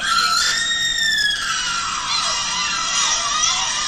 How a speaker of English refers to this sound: Well, the Manuelita actually had spliced out just the screaming part from backstage, and now she has it as her ringtone.